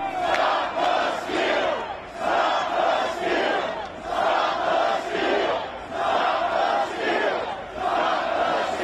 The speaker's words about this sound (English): The crowd echoing Trump's already discredited claim that the election was stolen from him. Stop the steal!